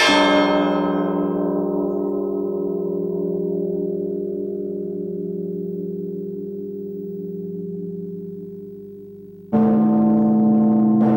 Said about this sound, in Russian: Перебор – это погребальный звон, тоже поочередные удары в каждый колокол, только от малого к большому. И в конце удар во вся, символизирующий обрыв жизни.